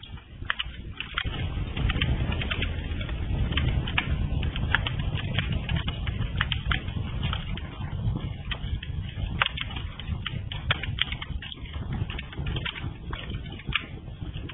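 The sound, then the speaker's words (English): A fire burns steadily with a low, rushing roar, broken by frequent sharp crackles and pops at irregular intervals, with no voices throughout. “Our fire's burning and crackling along.”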